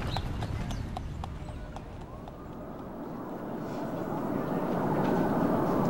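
Horse hooves clip-clop in a steady, even rhythm as a horse-drawn carriage rolls through Central Park on a sunny day, the hoofbeats clear at first and then sinking under a growing rumble of wheels and street noise.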